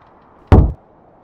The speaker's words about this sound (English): A single loud rap shook the room.